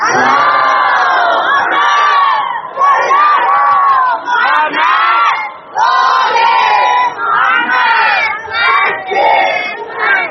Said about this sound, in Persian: اگه دوست دارید بچه های بیرونی رو دعوت کنید که بیام تو جلسه، شاید شاید یه حرف خوبی زده شد، یه صلوات بفرستید که اونا بشنون.